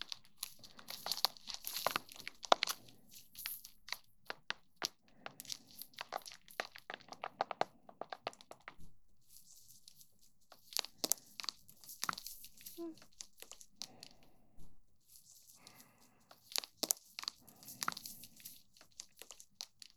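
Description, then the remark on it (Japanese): A pre-shampoo product being lathered into hair makes bursts of wet, crackly crinkling and squishing, coming in irregular rushes with short quiet gaps between them. “泡立てさせていただきますね。”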